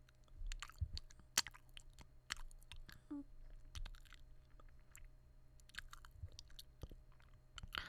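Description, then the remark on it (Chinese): Soft biting and chewing mouth sounds of gentle bites, a series of gentle wet clicks and nibbles repeating irregularly at low volume with no talking. “想咬一口，我轻轻的，我轻轻咬，想咬一口，我真的轻轻的。”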